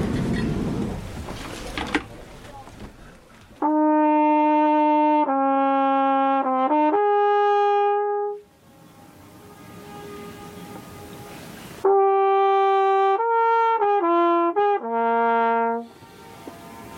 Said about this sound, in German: Jetzt weiß ich auch nicht, ich hätte rein zufällig mein Flügelhorn dabei. Möchten Sie mal so ein Echo hören?